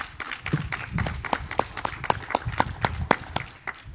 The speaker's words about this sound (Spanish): el comité que se hizo cargo del camino, al que felicitamos, que están aquí con nosotros, Comité del Camino. Un aplauso para ellos.